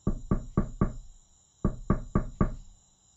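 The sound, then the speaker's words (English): Two quick bursts of four sharp knocks each, separated by a short pause, as Klo raps firmly on the palace gate during a festival, with a hollow, resonant thud, fairly loud with no voices. “The noise of the concert was so great that no one heard Klo knocking at the gate.”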